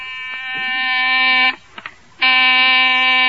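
A loud, harsh electric door buzzer sounds in two long bursts, each over a second, separated by a brief pause with a couple of faint clicks.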